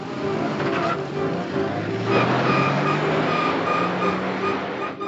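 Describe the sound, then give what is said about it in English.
A blue-gray sedan's engine is started and rumbles steadily, its low hum gradually rising in pitch as the car accelerates away, staying loud throughout over a rough, noisy background. “He starts the engine and rumbles away.”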